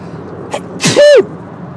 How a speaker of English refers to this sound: I'm going to sneeze, just bear with me.